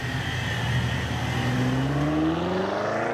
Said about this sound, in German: Habt ihr das Auto gesehen? Na, wenn das nicht verdächtig ist, da sollten wir hinterher.